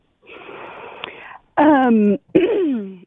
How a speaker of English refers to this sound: because she's clearing her throat, she has something. She's got a whole list. She's trying to figure out which one to say.